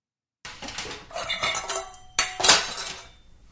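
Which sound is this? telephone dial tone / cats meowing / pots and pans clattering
pots and pans clattering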